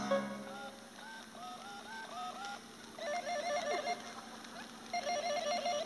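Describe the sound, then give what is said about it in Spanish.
A short series of stepped electronic tones as someone dials a telephone with their nose, followed by two bursts of a trilling phone ring, clear, with no voices. “Ahora, discaré con la nariz.”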